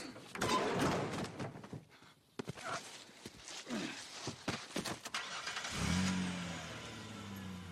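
A run of clunks and mechanical knocks, then a car engine turns over near the end and settles into a steady running rumble.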